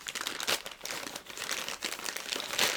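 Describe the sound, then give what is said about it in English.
Stiff plastic packaging crinkles and crackles continuously, with sharper bursts as it is cut with scissors, stabbed and pulled apart to get at a box inside, no voices present. “You know it's serious when you need to bust out the scissors just to get through this plastic.”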